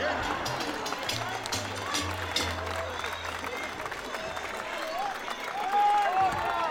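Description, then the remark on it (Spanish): An audience applauds steadily for several seconds to bid farewell to two guests, a doctor and a licenciado: a dense wash of many hands clapping at once, with a low hum underneath and a few voices mixed in, swelling slightly near the end. “Con el aplauso cariñoso de ustedes”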